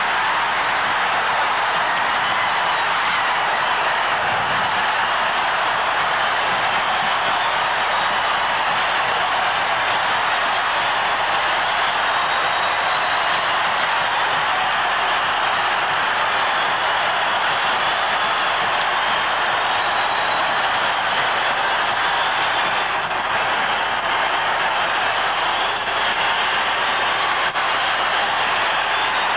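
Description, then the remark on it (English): An arena crowd cheers wildly in one loud, unbroken roar that holds steady for the whole half minute, with no single voice or pause breaking through the din, as the final seconds of the 1980 ice hockey game end, called by broadcaster Al Michaels ("Do you believe in miracles?"). “The crowd just keeps going on, by the way. It was pandemonium.”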